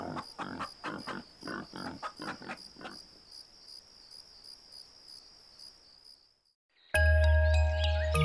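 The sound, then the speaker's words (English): A rapid series of rhythmic grunts from pigs strolling around a yard, over a steady, high cricket trill, fading into quiet night ambience before a sudden loud burst of different sound cuts in. “He'd sleep under the moonlight, with chickens and pigs strolling around his berth.”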